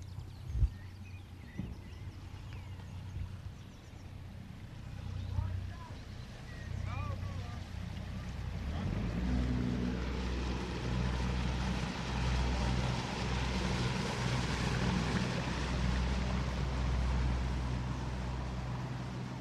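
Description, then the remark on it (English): Boat engines drone steadily on a river on an early, misty morning, a low continuous motor hum that swells midway as a louder craft joins in with a broad rush of churning water. “The first boats were already underway.”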